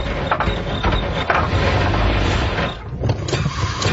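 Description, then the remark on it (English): A car engine with engine trouble, in a radio ad for BCAA roadside assistance, runs roughly, loud and rumbling, straining and sputtering with a brief stall-like dip near the end before chugging back up. No one speaks. “in case of a dead battery, flat tires, oh man, engine trouble.”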